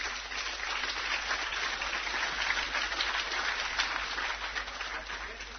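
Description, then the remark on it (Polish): A crowd applauds steadily for several seconds, a dense, even wash of many hands clapping at once with no pauses and no voices standing out. “Some men do not clap. I don't understand.”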